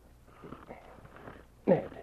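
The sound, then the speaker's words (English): A man snores in his sleep in the back room of a trading post: a low, rough, rasping breath drags along quietly, then breaks into one loud, sharp snort near the end. No one speaks. “Ned was snoring beside him, and Jake shook him.”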